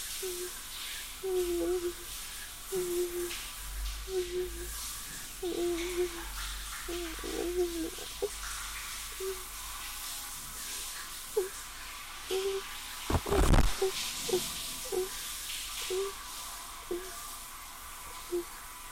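A shower runs with a steady, even hiss of spraying water throughout, while short low tonal sounds repeat over it, and a brief louder splash comes near the end.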